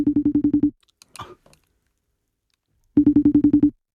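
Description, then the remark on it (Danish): The ringing tone of an outgoing phone call to Danish MP Rosa Lund sounds twice as a rapid, buzzy pulsing burst, with a long pause between the rings broken only by a short rustle. “Og vi ringer lige til hende og hører.”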